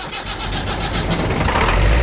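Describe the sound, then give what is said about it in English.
A previously seized engine, freed with a big hammer, cranks over with a rapid rhythmic chugging, then catches and settles into a loud, steady running rumble with a broad rough roar; no voices. “What are the tricks of the trade in unseizing a seized engine?”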